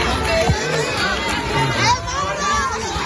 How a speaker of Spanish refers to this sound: Sexta visita de los Reyes a Valencia tras la Dana, recibidos en pleno centro de la ciudad con vítores y gritos de ¡Viva el Rey!